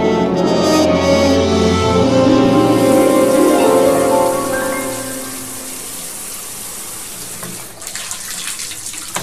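Water runs hard from a tap or shower with excellent water pressure, a steady gush with a faint pipe hum, then eases after a few seconds into a softer, quieter flow that continues to the end.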